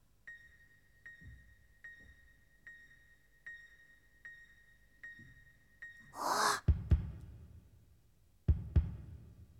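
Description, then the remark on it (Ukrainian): A steady, throbbing pulse with faint pings ticks along until sudden loud, ragged gasping breaths burst in as a creature revives after being given ten drops of valerian, followed by a pause and another sharp gasp. “Дихає! Дихає!”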